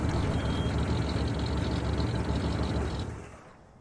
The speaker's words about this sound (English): Runner's truck pulls up to the bungalow.